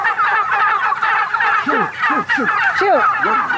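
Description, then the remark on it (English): A flock of about 1,000 heritage breed wild turkeys on a pasture gobbles in a dense, continuous chorus as they break through an electric fence, with individual birds' rising-falling calls repeating over the loud, overlapping din. “You were almost assaulted by 1,000 turkeys.”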